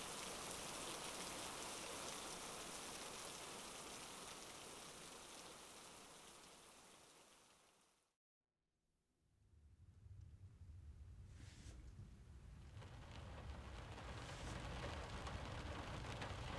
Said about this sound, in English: Unless you're scared of thunder. Are you?